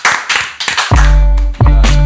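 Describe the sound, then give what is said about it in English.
A brief burst of hand clapping, several quick claps, cut off after about a second as loud tonal music with a deep sustained bass swells in and takes over. “I'm going to clap.”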